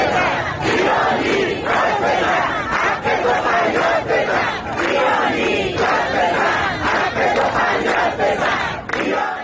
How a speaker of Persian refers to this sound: آنها پنج شنبه روبروی استانداری جمع شدند و حق مسلم خود را فریاد زدند. آب، برق، زندگی. بنابر آنچه در شبکه‌های اجتماعی منتشر شده، معترضان تا تاریک شدن هوا در خیابان‌ها ماندند و شعار دادند.